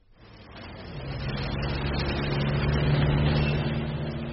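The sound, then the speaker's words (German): Steady city street traffic on a dusty June morning swells in over the first second, a broad rumble of passing cars and trucks with a low engine drone that holds loud and continuous, no voices. “Junimorgen. Staub, Straßenlärm und dieser undefinierbare Stadtgeruch, der in den Häusern steckt, wie der Duft von Mottenkugeln in alten Kleiderschränken.”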